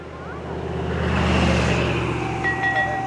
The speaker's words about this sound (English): You see the blue dot is me moving towards the rain garden, and when we close in on it, we're going to get a little ding dong, which is dependent on the GPS satellites.